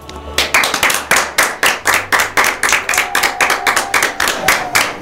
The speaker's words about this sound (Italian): Bravi loro che sono riusciti a cavarvela, che siete riusciti a cavarvela. Applauso.